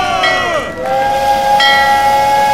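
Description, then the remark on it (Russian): A steam train's whistle sounds loud in one long blast, dipping in pitch partway through before holding steady, with a hiss of steam underneath, as a passenger train arrives at a station. “Кстати, вскоре мы ожидаем прибытия на станцию первого пассажирского поезда.”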